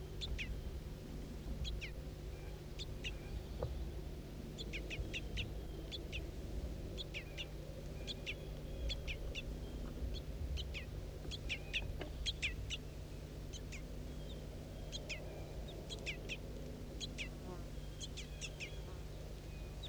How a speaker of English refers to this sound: Start recording juvenile begging calls again.